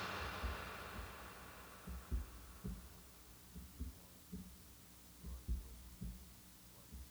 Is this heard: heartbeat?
yes